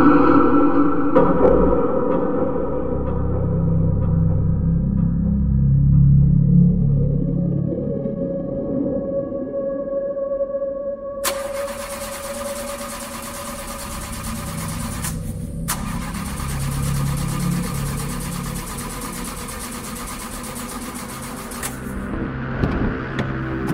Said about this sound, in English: Let me try something. You keep saying that, and the car still won't start.